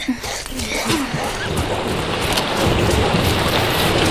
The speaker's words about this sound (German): Es regnet es auch noch.